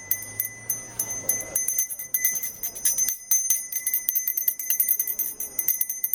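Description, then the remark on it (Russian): A small hand bell rung by a young boy as he walks about rings continuously in rapid, jangling strokes, bright and metallic with sustained high overtones, fairly loud, with no voices over it. “Мало того, этот звон привлекал внимание всех окружающих.”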